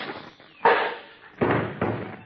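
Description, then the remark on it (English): A thrown metal cuspidor cracks against someone's head: three sharp, loud impacts in quick succession, each with a brief ringing decay, and no talking. “I'll stop him. I'll throw the cuspidor at him.”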